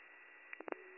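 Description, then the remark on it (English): Steady, narrow-band radio static hisses throughout a transmission from unit 9456, broken by three or four brief, louder crackling bursts near the middle before the hiss settles again. No voices come through. “9456, I was unable to copy, it came through static.”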